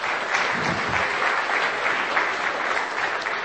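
A room full of people claps steadily, a dense, even wash of applause that holds at the same loud level throughout with no voices breaking through.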